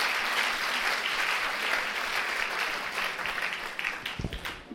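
An audience applauds a man while a microphone is brought to him: a dense wash of many hands clapping at an even level, thinning into scattered individual claps near the end with a low thump.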